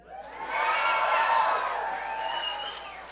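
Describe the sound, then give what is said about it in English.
A small crowd of about four band fans in an audience cheers and whoops for about three seconds, a handful of excited voices shouting together at a steady, fairly loud level before tapering slightly at the end. “That was a loud four people, man.”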